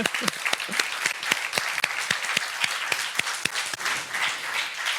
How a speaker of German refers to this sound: Und an dieser Stelle ein Riesendank an das Forum und das ganze Team. Ihr wart eine Wahnsinns-Location und habt das alles möglich gemacht. Nochmal Applaus.